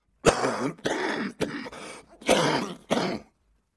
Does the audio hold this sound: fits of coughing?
yes